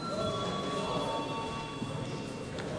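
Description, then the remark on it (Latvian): A bell in the Latvian parliament chamber, rung before voting, rings continuously for about three seconds, a steady, loud metallic ringing with a bright, buzzing tone and no pause, with no voices over it. “Lūdzu zvanu.”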